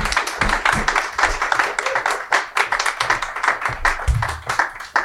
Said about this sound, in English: Real clap.